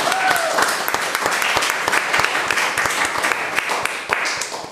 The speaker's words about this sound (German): Einen Applaus für unsere Weinprinzessin.